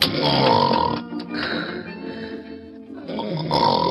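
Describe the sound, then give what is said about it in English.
A contestant in a snoring contest imitates snoring with a long, rough, rumbling snore, breaking into a guttural, burp-like grunt before a second loud rasping snore. No words are spoken. “Contestant number two, according to the depth of the applause meter, you win the $5 for the snoring contest.”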